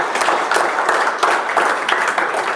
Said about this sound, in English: Amen. Give the Lord a hand of applause anytime.